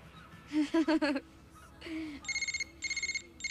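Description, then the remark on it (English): A red cell phone rings with an electronic ringtone: a short melodic run of tones, then quick bursts of rapid, high beeping repeated in a steady pattern, fairly loud. “She grabs a red cell phone, then looks serious. Hello?”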